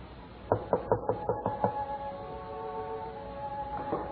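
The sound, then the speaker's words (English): Six quick, evenly spaced knocks on a door, sharp and fairly loud, followed by a low sustained hum with one more faint thud near the end. “Who knocks at this hour?”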